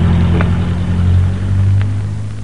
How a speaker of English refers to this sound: There goes another car past without stopping. Why don't some of them stop?